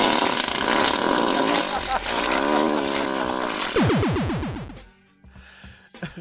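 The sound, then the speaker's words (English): A gorilla roars loudly, a harsh, sustained bellow lasting several seconds that breaks into quick rising howls before cutting off into a quieter background. “The gorilla.”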